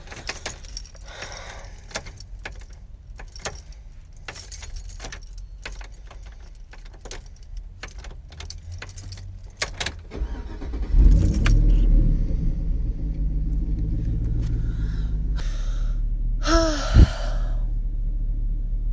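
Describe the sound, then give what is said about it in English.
Keys jingle and clink for several seconds, then a car engine turns over and catches, settling into a steady low idling rumble with no one speaking. “Can you please just turn on the car so we can go home?”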